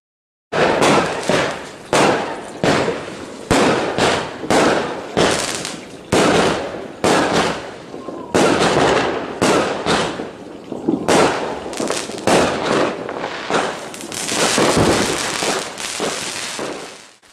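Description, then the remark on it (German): Loud, rapid bangs of New Year's fireworks and firecrackers burst one after another, a dense irregular barrage of sharp cracks and booms that continues almost without pause. “Das Jahr ist vorbei. Da knallt es immer so viel.”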